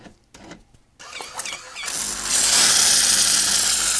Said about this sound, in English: Right, so I'm just leaving my machine to descale now, so that'll take about 40 minutes.